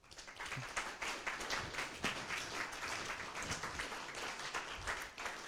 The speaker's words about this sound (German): dann erstmal ein ganz großes Danke und nochmal einen Applaus.